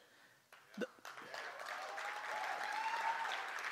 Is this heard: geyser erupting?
no